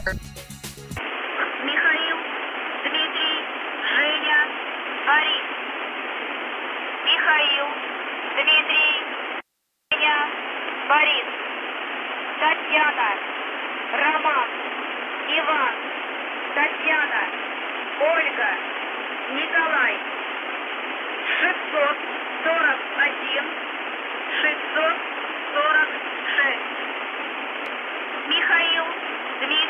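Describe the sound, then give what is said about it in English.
A muffled, tinny voice message broadcast on July 6 by the shortwave station known as The Buzzer comes through a shortwave radio, buried in steady hiss and static for half a minute, with one brief dropout partway through. “The buzzer returns on July the 6th with a surprise, a very odd message. We will play it for you now.”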